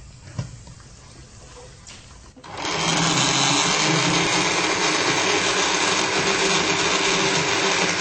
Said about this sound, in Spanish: Un toque de albahaca y a moler. Ah, un poco de agua para que pueda girar.